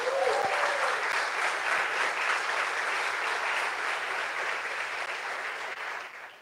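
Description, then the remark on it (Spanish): A church audience applauds the Lord steadily for several seconds, a dense wash of many hands clapping at once that holds strong before tapering slightly at the end. “¿Puede darle un aplauso al Señor?”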